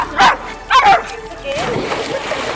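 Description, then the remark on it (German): A dog barks twice, loud, in quick succession, then lets out a softer, drawn-out whine against a faint noisy background. “Und ich sag mal so, sogar mein Hund mag es hier.”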